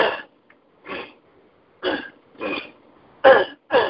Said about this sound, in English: So yeah, I got this allergy. I've had it for a while. It's not getting any better. It's not really getting any worse. It's just kind of like a pain in the butt. I gotta clear my throat all the time. I'm always like...